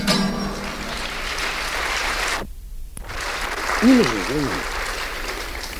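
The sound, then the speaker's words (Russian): A concert audience claps after a song in a dense, steady wash of applause that cuts out briefly midway when the performer gestures, then resumes while a voice speaks over it. “Вы знаете, я вот этот жест, это уже выработалось так, потому что я всегда не успеваю, хочется украсть у аплодисментов, значит, и добавить песням.”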